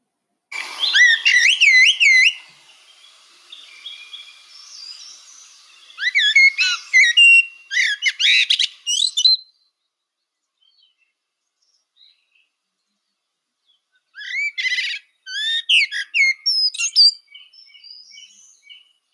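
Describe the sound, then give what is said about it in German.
A Eurasian blackbird sings in clear, fluting phrases, three bursts of song separated by pauses, fairly loud with twittery flourishes at the end of each phrase. “Und jetzt die Amsel.”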